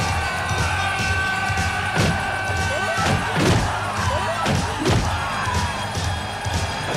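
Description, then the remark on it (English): A flurry of movie-fight punches to the stomach and nonstop kicks, including roundhouse kicks, land in quick, irregular succession, heavy thuds and sharp smacks over a steady, busy background bed. “And then, yeah, it's just relentless punch into his stomachs, kicking him like nonstop. He's doing roundhouse kicks.”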